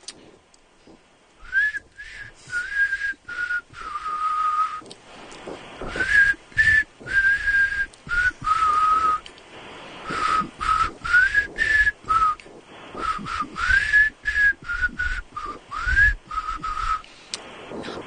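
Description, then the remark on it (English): Someone whistles a song melody, a clear melodic line of sustained and sliding notes in phrases with short breaths between, with breathy rustle and some low bumps underneath. “Whistle a melody.”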